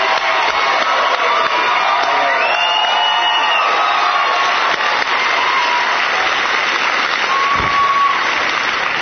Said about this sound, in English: So as he's getting ready to introduce Dreyer, here comes this tsunami of applause from the crowd. Maher had to stop talking.